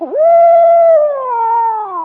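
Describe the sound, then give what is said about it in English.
A person's voice imitates an owl's scary call: one long, drawn-out hooting wail, held steady and then slowly sliding downward in pitch, loud with no other sounds. “Then sometimes when he wants to scare you, well, then he'll go like this.”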